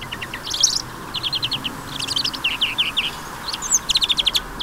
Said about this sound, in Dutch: De groenling.